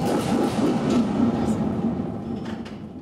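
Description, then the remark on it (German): A theatre thunder sheet (Donnerblech), a thin, flexible metal plate at the Schauburg, struck with a stick by a music and theatre educator, gives a loud, sustained rumbling roar with metallic rattles and a few sharper hits, easing off slightly toward the end with no talking. “Der Musik- und Theaterpädagoge Till Rölle von der Schauburg schlägt mit einem Stab auf dieses Blech.”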